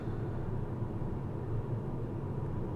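A steady, low rumbling drone of road noise, like riding inside a moving car, constant and even throughout with no voices.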